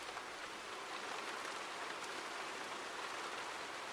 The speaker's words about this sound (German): Auf einmal merken wir, dass Regentropfen fallen.